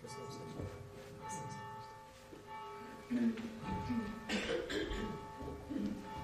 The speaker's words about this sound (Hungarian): Kedves testvérek, a harang is jelzi, hogy a záróénekhez érkezünk.